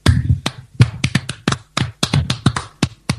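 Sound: one person clapping hands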